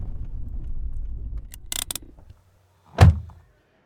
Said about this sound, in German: Kurze Zeit später parkt das Auto von Familie Berger direkt am Sachsenring